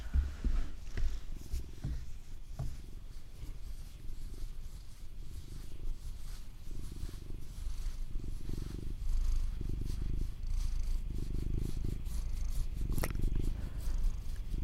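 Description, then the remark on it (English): A cat purrs steadily, a deep rumbling vibration that pulses in a slow rhythm for the whole stretch, with a few soft rustles and clicks and no talking. “Oh, here she comes. Oh, there she comes. What a good cat.”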